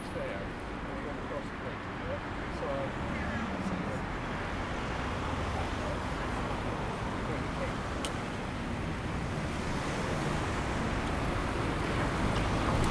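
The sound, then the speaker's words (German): Steady, dense roar of road traffic rushing past a pedestrian crossing onto a bridge at the head of the main square in Linz, a continuous wash of engine and tyre noise with no pauses, loud and unbroken throughout. “Neben uns sausen alle auf die Brücke und sind jetzt am Kopf des Hauptplatzes.”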